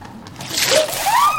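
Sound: water splashing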